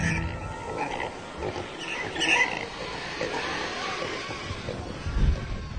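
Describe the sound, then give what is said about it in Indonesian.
A dense, chaotic din of a herd of pigs squealing and grunting together as they rush toward the edge of a cliff, with sharp high squeals rising above a steady rumbling mass of noise that swells near the middle and end. “Dan kawanan babi itu laju belahi menuju ke tepi jurang.”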